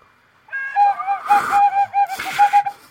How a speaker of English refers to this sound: I'm trying to whistle with you.